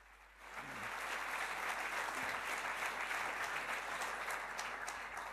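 Audience applause for two speakers being introduced at a talk on media reactions to Edward Snowden's revelations swells within the first half second and holds steady as a dense, even wash of many hands clapping, with no voices audible.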